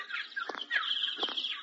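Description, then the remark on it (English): A bird chirps busily and continuously, a stream of bright, high tweets and short warbles, with no talking. “We'll go around and see the bird.”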